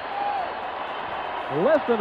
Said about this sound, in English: Listen to this crowd just going crazy. I'll tell you, that one's pretty fun, right? Scott Skiles with his 30th assist, and that's a new NBA record.